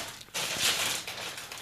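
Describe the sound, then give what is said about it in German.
A Funny-Frisch crisp packet is torn open, a sudden burst of bright crinkling and ripping plastic that carries on for over a second, with no voices. “Ich mach die Tüte jetzt auf.”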